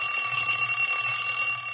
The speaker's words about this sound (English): Boy, when that old alarm clock goes off in the morning, I'll bet there's lots of folks who wish they could go right on sleeping for 20 years.